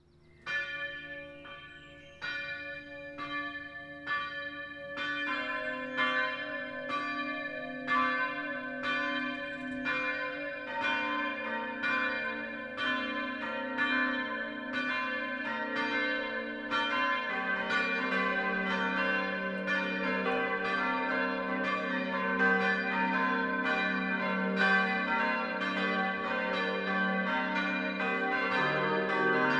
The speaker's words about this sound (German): Es ist 12 Uhr. Das Mittagsläuten kommt heute von der evangelischen Stadtkirche St. Marien im mittelfränkischen Gunzenhausen.